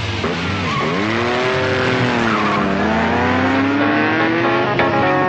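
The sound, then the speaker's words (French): A car engine revs hard with rising and falling harmonic whine, accelerating loudly and continuously, with a hint of tire squeal as it takes off from a red light at the start of a street race. “Le conducteur fait frombir son moteur en signe de défi. Allez, la course est lancée.”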